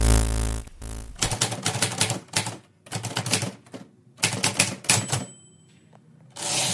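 machine, manual typewriter typing

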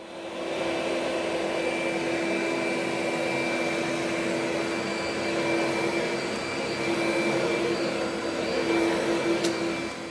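household object, vacuum cleaner running

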